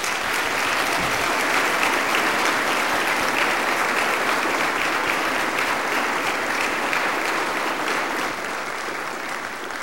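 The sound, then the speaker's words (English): A church audience claps steadily for about ten seconds, applauding the children who shared the good news of Jesus that morning, a dense, even wash of many hands with no voices standing out, tapering only slightly toward the end. “Let's praise Jesus by giving them some applause.”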